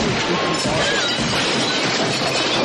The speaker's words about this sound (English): Oh! I didn't know DVDs shattered like glass. DVDs are shattering everywhere!